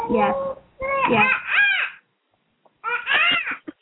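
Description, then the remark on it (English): A young child imitates a monkey with high-pitched, squealing hoots that rise and fall, coming in three bursts separated by short pauses. “Sounds like telling you're doing the monkey sound.”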